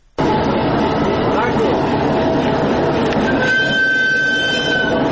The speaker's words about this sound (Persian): برای اولین بار یک قطار انتقال کالاهای چینی با طی نمودن 3000 کیلومتر راه از طریق قزاقستان و ازبکستان وارد افغانستان شد. این محموله کالاهای تجارتی با تاریخ 25 آگوست در شهر هیمن کشور چین به سوی افغانستان حرکت کرد و امروز به بندر تجارتی حیرتان در شمال